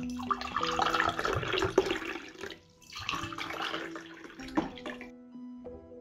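Water pours steadily in two bursts with a short pause between, splashing, with a few clinks near the end as the flow stops.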